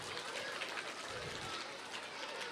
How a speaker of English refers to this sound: So I'd like to welcome our own astronaut. And here he comes. Let's give him a big clap.